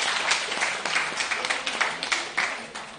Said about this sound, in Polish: Pierwsze miejsce, nie opuszczają podium. Gratulujemy jeszcze raz wielkie brawa dla Pani.